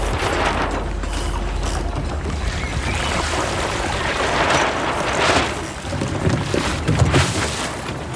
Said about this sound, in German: Und was hier nach Plätschern und ein bisschen Wind klingt, das ist in echt ziemlich akrobatisch.